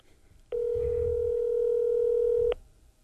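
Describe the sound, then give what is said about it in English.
A steady telephone dial tone hums for about two seconds as a phone call is being made, a loud, constant mid-pitched drone that starts and stops abruptly, with faint low rumbling underneath. “Making a couple of phone calls here.”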